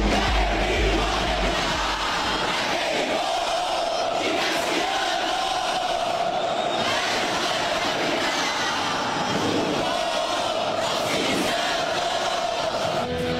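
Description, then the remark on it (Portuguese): Football supporters of both teams, thousands of tricolor fans in rain capes and the black-and-white fans, chant in a stadium where both sides made mosaics: a dense, steady roar of many voices that stays loud and unbroken throughout, with occasional swells rising out of the crowd noise. “E que festa das duas torcidas.”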